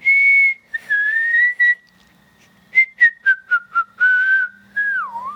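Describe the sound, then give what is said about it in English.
A theme tune whistled by young voices, with sustained tones and a run of short staccato notes, clear with no talking; the tune rises and dips before ending on a gliding note. “Our theme music sounds a little different today because you are the ones whistling it.”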